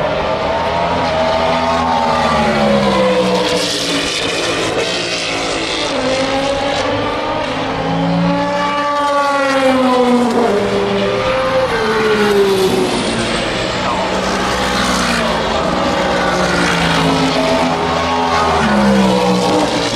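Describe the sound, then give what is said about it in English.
Loud race car engines scream and roar past one after another as they go through the Dunlop Bridge and the S's into Tête Rouge, pitch rising and dropping as they brake and accelerate through a corner, with overlapping revs filling the whole stretch. “I'm just going to give you a few minutes of some car audio porn.”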